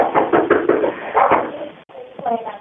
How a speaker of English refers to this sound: Nope, he's at the back patio door again. I can hear him banging again.